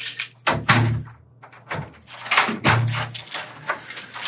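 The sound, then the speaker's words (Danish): Doors on the way into a visiting area, where an officer stands waiting, clunk open and shut with a few heavy metallic thuds and bangs, a faint jangle of keys in between, over a steady low hum and no talking. “der er mange døre, der skal åbnes og lukkes.”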